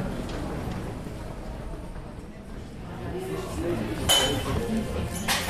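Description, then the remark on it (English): Dishes and cutlery clink in a cafe in Vienna against a steady murmur of indistinct voices, with a couple of sharper, brighter clinks standing out toward the end. “I'm now with the family in a nearby cafe.”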